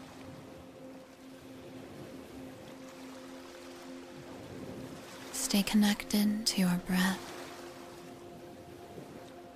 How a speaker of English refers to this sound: the sound of the waves, and your imagination of the peaceful view, allowing whatever is to simply be as you relax more and more deeply into the peaceful sound of the ocean.